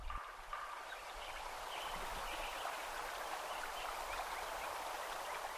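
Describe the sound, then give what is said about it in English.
A sparse outdoor soundscape in Lincoln Meadow at Yuba Pass, California, one year after the forest was logged: a steady, soft hiss like running water or breeze fills the scene, with only a few faint, scattered chirps and no voices. “Listen to Krauss's recording 1 year after logging.”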